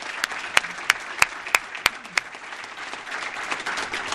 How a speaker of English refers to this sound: So can we please give a rounding applause for our president and First Lady?